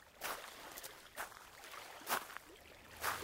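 Boats moving on water at a floating market in Thailand, with soft, regular splashes like paddle strokes dipping in about once a second, quiet over a faint watery background, with no one talking.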